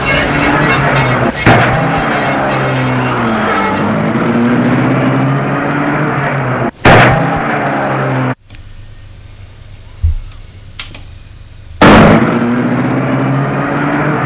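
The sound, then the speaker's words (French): A Rolls-Royce car engine, started by a chauffeur, rumbles steadily with a low, continuous drone, punctuated by a few sharp bursts and a sudden drop before the running sound resumes at a lower level. “Et il la met en route.”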